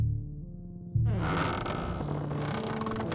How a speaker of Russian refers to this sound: Двери невысокого сарая, притулившегося к столь же кособокому двухэтажному дому, с трудом провернувшись на изрядно побитых рожой петлях, распахнулись, не став задерживать на пороге столь представительную делегацию.